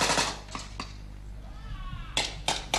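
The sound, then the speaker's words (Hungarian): Several sharp, loud gunshots crack out at irregular intervals, a cluster early on and another burst near the end, with a low rumbling background between them, as American soldiers fight in the rain in a training exercise on the Kansas plains staged to resemble Afghanistan. “Amerikai katonák harcolnak az esőben. Lövések dördülnek.”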